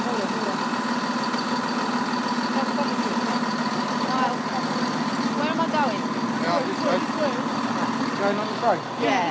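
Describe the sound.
A diesel train engine idles as passengers board, with a steady, droning low hum and strong harmonic tones throughout, while voices chatter over it.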